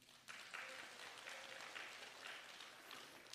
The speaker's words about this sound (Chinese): 我给三个掌声。